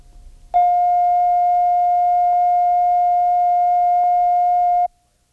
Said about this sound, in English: The following tone is a reference tone of 700 cycles per second recorded at operating level. Set the playback level control so that the tone reads zero on the VU meter.